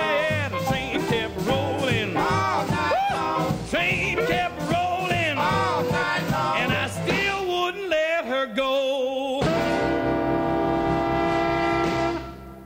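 An old rhythm and blues record from 1952, recorded in Cincinnati, plays loudly, with bending brassy horn lines and a driving beat, then the band holds a long final chord that rings out to the end.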